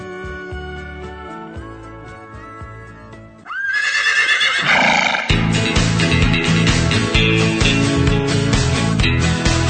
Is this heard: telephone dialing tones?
no